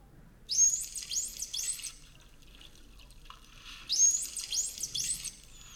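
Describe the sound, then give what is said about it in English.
The signature whistle of a dolphin named Nat is played back twice, each time as a quick run of about three high, looping, rising whistles, separated by a quiet gap with faint background hiss; after the second, a male dolphin, Bridges, responds with his own signature whistle. “You can even hear after the second whistle we played back, he also responds with his own signature whistle.”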